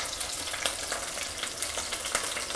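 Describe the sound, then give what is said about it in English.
Steady sizzling of chicken thighs frying skin side down in a hot pan over about medium-high heat, a dense crackle with small pops scattered throughout and no voices. “So the chicken thighs are in there. You can hear them sizzling.”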